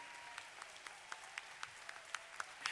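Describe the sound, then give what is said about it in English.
A church audience clapping their hands after a prayer, with sharp claps landing on a steady beat about four times a second over a continuous wash of applause. No voices are heard. “Clap them the other way.”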